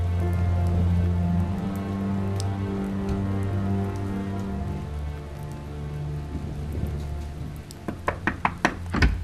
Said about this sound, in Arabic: أنت الذي تطرق الباب.